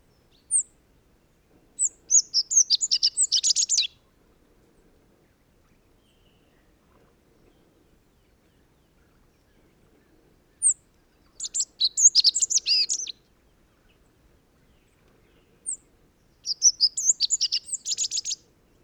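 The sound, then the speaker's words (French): A bird perched at the top of a Scots pine sings close by in three bright, high-pitched bursts, each opening with a lone thin note before a rapid, loud run of chirping phrases, separated by quiet pauses. “Il est maintenant tout proche, perché au sommet d'un pin sylvestre.”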